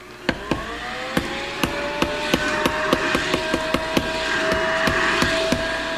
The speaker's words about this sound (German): So arbeiten am Samstagmorgen alle umso fleißiger, damit der Laden pünktlich eröffnet werden kann. Schon ab 7 Uhr wird gehämmert, gesägt, gehobelt und geklopft.